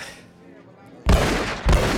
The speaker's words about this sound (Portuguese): Vai, abre a janela. Dá dois pipocos aí pro alto. Ah, tem certeza, velho? Eu... Vamos, porra. Vamos que tiro pro alto no Rio de Janeiro é festa.